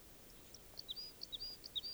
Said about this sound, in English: there's at least three type 2 crossbills near camp singing and calling. And they're not all together. There's one singing about 150 meters from the other two.